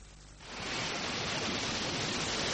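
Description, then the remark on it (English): After a brief hush, a loud, steady roar of surf swells in and holds, like sea waves crashing continuously onto the shore of an island, with no voices. “A couple of miles at sea crashing in.”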